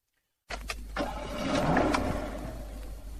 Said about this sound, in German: Feine Musik, oder? Was für Musik? Das zufriedene Tönli vom Motor. Aha, das. Ich höre kaum etwas. Eben, das ist Musik für meine Ohren.